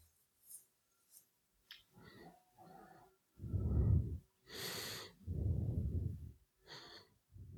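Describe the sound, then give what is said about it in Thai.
Slow, deep breaths drawn in and pushed out, a few short sniffs first, then long airy inhales alternating with heavy, rumbling exhales. No talking. “หายใจเข้าหายใจออก”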